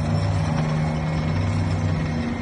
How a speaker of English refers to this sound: The Israel Defense Forces posted videos of trucks and armored vehicles moving back from their positions inside of the Gaza Strip.